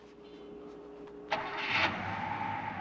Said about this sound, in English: He puts the car into gear and drives off through some deserted loading docks beneath the grey half-light of dawn.